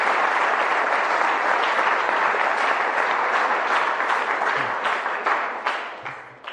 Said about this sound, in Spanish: Un aplauso a este texto que es tan hermoso.